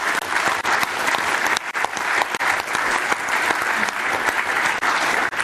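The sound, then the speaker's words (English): An audience claps for the event's sponsors, especially diamond sponsor Interlink, with many hands producing a dense, even wash of applause that stays fairly loud and constant for several seconds, with no talking over it. “Give it a hand, clap of hands, please.”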